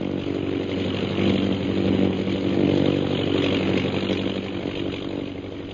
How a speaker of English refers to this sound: Meanwhile, far to the south of Bhutan's camp, an airplane carrying Captain Carstairs and Lieutenant Rogers of the Royal Air Force approaches Dumba Pass.